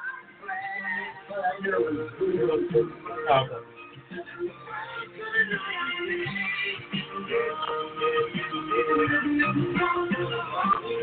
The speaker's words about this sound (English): Hey, you can hear that music out there, right? You can hear the echo out there, right? You can hear the echo for the music out there? It was like you have to hear the echo out there.